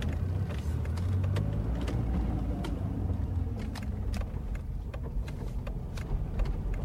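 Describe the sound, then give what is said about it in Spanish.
A car drives steadily along a city street in Buenos Aires, its engine a continuous low rumble with road noise and scattered sharp clicks and rattles throughout, moderately loud. “maneja por la ciudad”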